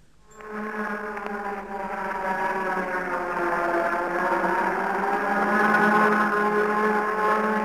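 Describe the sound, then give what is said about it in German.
Several sirens of a city sound the nuclear and air-raid alarm signal together in a long, steady wail, the tone swelling in and slowly rising in pitch as it holds loud and unbroken, with no voices. “Das Signal Atom- und Luftalarm, gegeben von mehreren Sirenen einer Stadt.”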